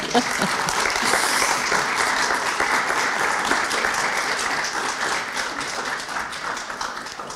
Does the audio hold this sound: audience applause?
yes